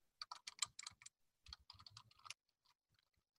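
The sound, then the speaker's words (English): Rapid keystrokes clatter on a computer keyboard while filling in an online pledge form, in two quick bursts separated by a brief pause, then trail off into a few scattered, softer taps. “And once you get to the form, just start typing.”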